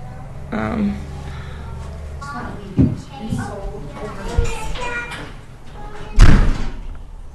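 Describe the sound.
Someone moves about nearby, with a few scattered knocks and thumps from handling things, then a door shuts with a loud slam near the end. Faint, indistinct voices murmur in the background.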